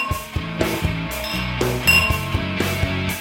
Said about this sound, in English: It's taken almost 200 episodes, but we can clink glasses with the best of them at this point. We are the Clink Masters.